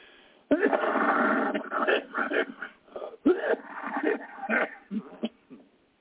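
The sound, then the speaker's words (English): A person who recently quit smoking coughs in two harsh, sharp-starting fits, each trailing into raspy, wheezy hacking and throat-clearing bursts of uneven rhythm. No one speaks. “Excuse me, I quit smoking the other day, and oh boy, I'm coughing as much or more now than I did when I was smoking.”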